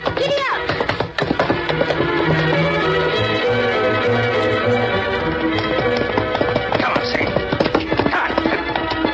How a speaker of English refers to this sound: What is it? Listen there. What? There's a horse. What? Horse headed this way.